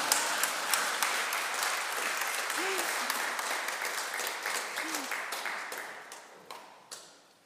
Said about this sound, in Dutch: U durft niet, hè? Maar u mag best klappen.